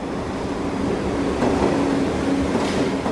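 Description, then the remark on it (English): A subway train rumbles steadily along the tracks, loud, with a thin metallic whine and faint clacking wheels running through the whole stretch, passing over the rails at the 135th and Broadway station. No one speaks. “he lay atop the victim between the rails while the train passed over them”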